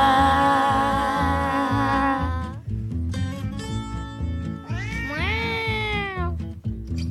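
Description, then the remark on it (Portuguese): A cat meows several times in long, drawn-out cries, the last rising and then sliding down, all over a steady, rhythmic musical beat playing underneath. “O gato pelado, co dente afiado, cheira pola casa, busca o seu bocado. Marra miau, marra miau, marra miau.”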